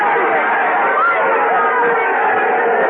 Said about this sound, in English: Oh, the crowd's giving him quite an ovation.